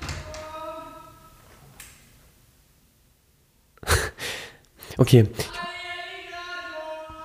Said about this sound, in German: ich weiß, ich mach mal hier kurz die Tür auf.